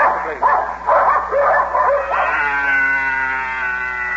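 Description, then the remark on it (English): Sled dogs pulling a dog sled, urged on with calls of 'mush', bark and yip in a quick run of overlapping bursts, then the noise settles into a long, drawn-out whining howl. Fairly loud, with no talking. “Well, hop on my dog sled. Come on, dogs. Mush.”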